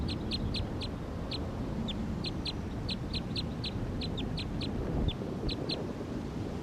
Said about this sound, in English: Recording, this is the wild bird perched on the hose right down here next to 301.